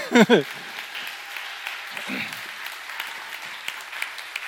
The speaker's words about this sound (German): Ist das nicht eine tolle Truppe hier vorne? Genau. So, und ich finde, das hat einen Applaus verdient.